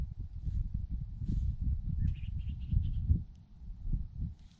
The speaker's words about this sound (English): You can hear a few birds maybe, but it's just quiet. It's silent, no cars, no cities, no, nothing. Just me. It's just me. It's so quiet.